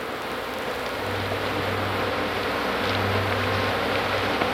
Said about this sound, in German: Das Summen, das ihr gleich hört, sind Fliegenschwärme, die Kuhkadaver befallen.